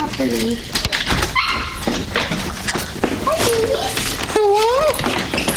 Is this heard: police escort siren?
no